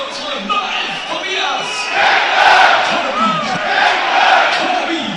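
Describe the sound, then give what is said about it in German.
A loud stadium crowd roars and cheers after a football goal by Tobias Kempe that makes the score 1:2, a dense wall of shouting voices that swells and stays strong throughout, with individual yells rising out of the din. “Die Leute vor mir springen auf. Und das Publikum ist da.”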